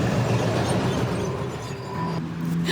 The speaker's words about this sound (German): Da kam uns jetzt ein Zug dazwischen.